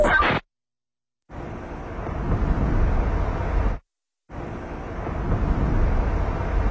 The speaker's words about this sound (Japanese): 気づきましたか？二つの音のズレが1デシベル違ったことに。その車の開発者にはロードノイズを操る男がいる。すべての妥協を捨てて、トヨタ CHR。